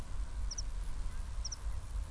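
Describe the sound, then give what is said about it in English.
Two brief pairs of high, thin bird chirps sound about a second apart, fairly faint, over a steady low outdoor rumble like wind, in the countryside of the Derbyshire Peaks on a sunny but somewhat cloudy day. “And hopefully hear the crickets and the sheep possibly in the background and the birds.”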